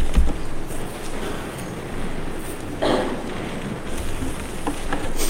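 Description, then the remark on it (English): Steady rain falls in the morning in a continuous, even hiss with soft patters, filling the whole recording at a moderate level with no voices present. “Thank God was adding his little bit to the music this morning by the rain.”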